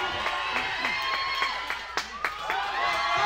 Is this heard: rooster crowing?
no